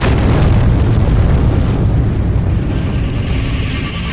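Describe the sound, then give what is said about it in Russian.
A loud, sustained explosion sound effect at the end of a song fills the whole stretch, a dense roaring blast with heavy low-end boom that slowly thins out toward the end, with no voices. “В конце должен быть звук взрыва.”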